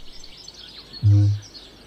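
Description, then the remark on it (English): A male kakapo calls to attract a mate at night on the ferny slopes of a New Zealand island: a single deep, resonant boom, loud, lasting about half a second against a faint, steady chorus of high chirping in the background. “High on the ferny slopes of its New Zealand island fortress, a male kakapo is calling to attract a mate.”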